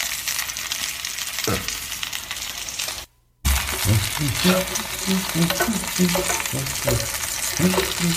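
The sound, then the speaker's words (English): Chicken sizzles loudly and steadily in a hot pan. The crackle cuts out for a brief moment and then resumes with scattered clinks and scrapes, as if the pieces are being stirred. No one speaks. “This chicken smells good.”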